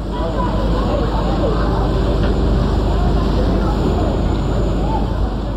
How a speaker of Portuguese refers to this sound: Nove horas, com pontualidade suíça, entramos. Logo depois, as turbinas do barco a vapor começam a funcionar e partimos.